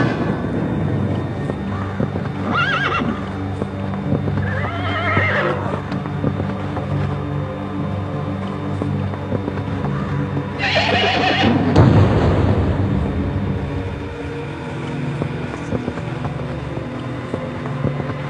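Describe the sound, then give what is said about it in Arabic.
A horse whinnies in a few separate bursts, the loudest and longest near the end, over a steady low background rumble with no talking. “ها صوت خيل.”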